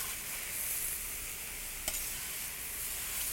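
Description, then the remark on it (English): Steady, crackling sizzle of a stir fry with snow peas frying in an oiled pan, a dense hiss that holds for a few seconds with one sharp click partway through. No one speaks. “If you did not put enough oil into your stir fry, you can always add more.”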